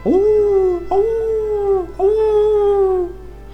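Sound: wolf howling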